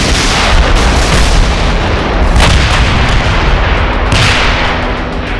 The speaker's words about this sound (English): Then the artillery opened fire.